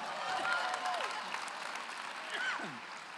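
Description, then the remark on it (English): A crowd applauds and cheers for the children as they leave the auditorium, dense clapping filling the whole stretch steadily, with a few high whoops and shouts rising above the noise. “Give them a big cheer.”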